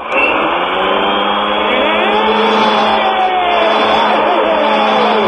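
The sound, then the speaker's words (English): A power drill whirs loudly and continuously for about five seconds, its high, buzzing motor whine wavering slightly in pitch without stopping. “we're going to take a drill to his nuts.”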